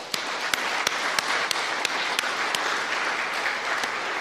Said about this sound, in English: I will make sure that you get these certificates, but let's give these folks a round of applause.